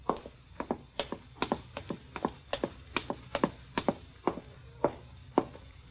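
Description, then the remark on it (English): Soft footsteps of someone walking to a stairway at a steady, unhurried pace, a string of about a dozen light taps in loose pairs over a faint background hum, with no voices. “Open the door and walk softly to the stairway.”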